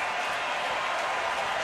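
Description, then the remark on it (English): A large baseball stadium crowd roars steadily on a full count to Michael Busch, with Freddy Peralta pitching: a dense wash of cheering and clapping that holds at an even level throughout, with no single voice standing out. “Crowd making some noise.”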